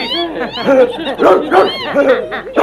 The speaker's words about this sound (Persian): این سگه رو ببرین اون بر.